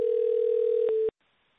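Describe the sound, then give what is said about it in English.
A steady telephone dial tone hums at a single pitch for about a second while a call is placed back to a caller, broken by a couple of faint clicks, then cuts off abruptly into near silence. “I haven't tested the phone line, so let me call this guy back.”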